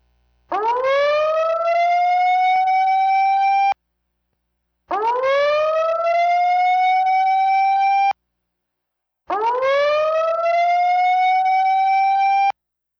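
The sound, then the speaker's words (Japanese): A tsunami warning siren sounds as part of a drill broadcast of a tsunami bulletin, in three long, loud wails, each rising quickly to a steady tone, separated by short pauses of silence, with no voices. “ただいまから津波速報の訓練砲を通報します。”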